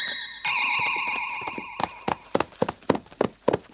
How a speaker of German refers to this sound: Spitze! Auf einem Wildpferd ohne Sattel durch die Pusta.